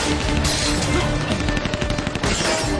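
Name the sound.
gunfire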